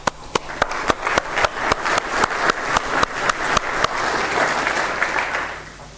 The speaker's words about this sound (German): So, nach diesem kleinen, jetzt sind wir alle wieder wach, Klatschen hilft da, glaube ich, für.